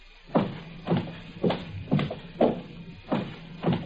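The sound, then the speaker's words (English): Seven steady footsteps at an even walking pace, each a soft, dull thud with a slight scuff, heard alone over a faint hiss. “Footsteps.”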